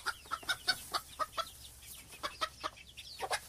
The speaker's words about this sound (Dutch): Plus minus 300 kippen.